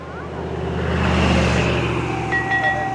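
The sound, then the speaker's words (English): A soft two-tone "ding dong" GPS proximity chime, triggered when closing in on a rain garden, sounds near the end, holding steady pitches over the constant low rumble of a running vehicle engine. “You see, the blue dot is me moving towards the rain garden, and when we close in on it, we're going to get a little ding dong, which is dependent on the GPS satellites.”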